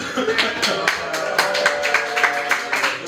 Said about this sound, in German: Ja, also wenn ich würde sagen, so semi-motivierte Nerds üben akademischen Applaus. Das machen wir heute hier in der Marienstraße 11.